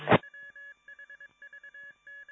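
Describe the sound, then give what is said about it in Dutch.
A radio repeater's tone signal: a short burst of noise, then quick groups of clipped electronic beeps like a dialing sequence, steady in pitch and fairly loud, with no voices. “Ja, dat was de repeater nog eventjes.”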